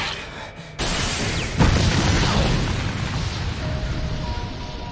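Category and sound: sound effect, explosion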